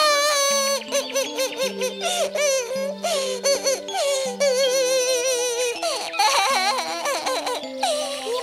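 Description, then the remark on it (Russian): A hedgehog character cries with high, wavering sobs that pour out almost without pause for several seconds, fairly loud, over a steady backdrop of soft sustained musical notes. “плачь, ёжик. Это не беда.”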